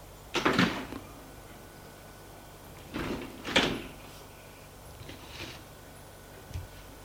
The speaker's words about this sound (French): descend les escaliers, au rez-de-chaussée, ouvre la porte du rez-de-chaussée pour sortir.